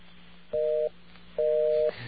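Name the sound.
telephone dial tone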